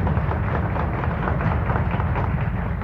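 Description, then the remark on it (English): A crowd applauds for Nation Magazine, with dense, continuous clapping that holds at an even, loud level throughout and has no voices over it. “I think we can all say, I'm sure Nation would appreciate that applause you're about to give.”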